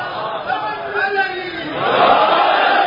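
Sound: crowd chanting a slogan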